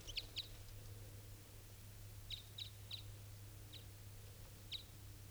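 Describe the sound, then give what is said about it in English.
A female bird, member of a mated pair and recorded as bird 507, calls in short, high-pitched chips, about seven of them spaced irregularly, some in quick pairs, fairly faint over a steady low hum, with no talking. “This is her calling.”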